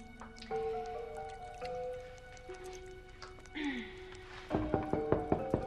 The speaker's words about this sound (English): She dunks her head into the basin full of water.